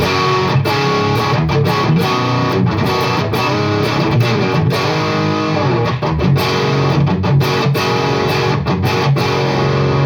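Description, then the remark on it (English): Crunchy, metallic overdriven electric guitar, set to a low level of gain, plays a steady riff for ten seconds, dense and loud throughout with distorted, gritty harmonics and brief choppy gaps between chords. “So even with a low level of gain, you're getting that kind of nice crunchy but like metally overdrive sound.”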